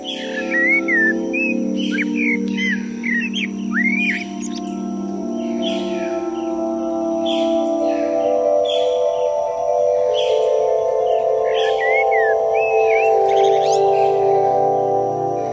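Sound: birds singing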